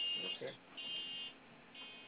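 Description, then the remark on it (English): A shrill alarm buzzer sounds in repeated bursts, a steady high-pitched tone switching on and off, with a brief murmur of voices underneath near the start. “Got alarm.”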